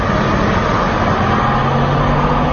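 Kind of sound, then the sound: vehicle, school bus engine running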